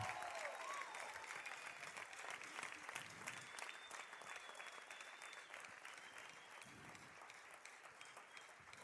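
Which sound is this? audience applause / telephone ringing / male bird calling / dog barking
audience applause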